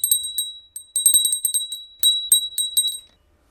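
A small crystal bell from the United Arab Emirates rings rapidly and repeatedly for about three seconds, a bright high-pitched tinkling with a sustained shimmering tone, then fades out. No voices.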